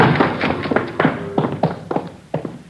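Quick, firm footsteps thud across a hard floor, about eight or nine steps in a brisk, slightly uneven rhythm, with no voices and no clear sound of a door, as men enter a house through its door at a given signal.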